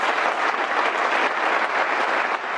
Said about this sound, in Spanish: Esa ovación en la despedida de Leo Messi,